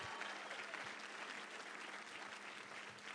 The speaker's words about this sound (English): Can we give her one more hand clap as she gets ready to preach the word?